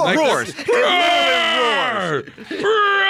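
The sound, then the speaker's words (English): A person's voice loudly imitates a shark screaming in pain: a drawn-out, strained wail that rises and wavers, breaks off briefly twice, then resumes with fresh anguished cries. “It pokes its head out of the water and screams out in pain.”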